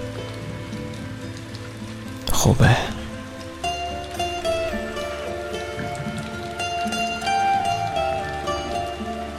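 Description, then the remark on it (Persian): Soft, steady rain patters continuously beneath a calm, sustained musical drone, with a brief louder splash early on and a voice speaking briefly over it. “قطره‌های بارون آروم و آهسته روی دستات فروز میان.”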